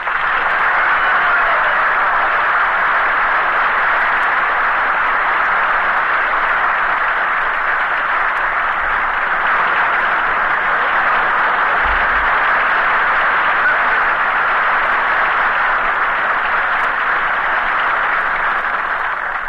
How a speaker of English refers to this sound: Hey, Bing, he got more applause than we did.